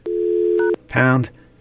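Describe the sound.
A steady telephone dial tone hums, cut by a short two-pitch keypad beep as a number is dialed. A brief burst of voice follows, then another keypad tone starts at the end.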